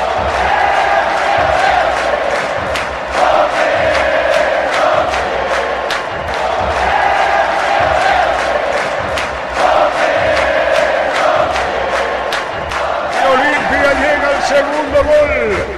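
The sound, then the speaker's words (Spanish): A packed stadium crowd in Pedro Juan Caballero, standing in the stands, roars a goal cheer for a goal by Roque Santa Cruz, loud and unbroken, with voices chanting in a steady rhythm and regular clap-like beats running through the whole stretch. “El público de pie en preferencia. En la tribuna con el grito de Roque.”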